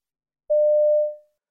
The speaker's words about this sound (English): You dial a number to find out about night classes. You hear this recorded message.